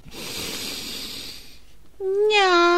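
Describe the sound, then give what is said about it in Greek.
As part of a breathing exercise, a long, breathy inhale through the nose is followed by a single drawn-out meow voiced by a person imitating a cat while exhaling, fairly loud. “Αλλά τώρα θα εισπνεύσουμε και θα εκπνεύσουμε κάνοντας ένα νιάου.”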